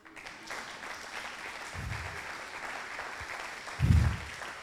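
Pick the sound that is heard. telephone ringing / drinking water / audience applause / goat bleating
audience applause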